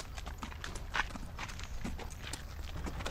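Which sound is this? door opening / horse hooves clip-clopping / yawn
horse hooves clip-clopping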